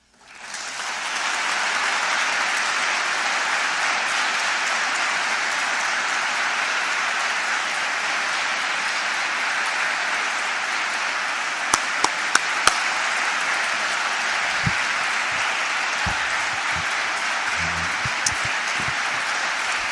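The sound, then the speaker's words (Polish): Sustained applause from a crowd at the end of a speaker's talk, a dense steady wash of many hands clapping for the full twenty seconds at a constant, fairly loud level, with a few sharper individual claps standing out near the end. “Mężczyzna ma być wielki, ale już tych braw wystarczy.”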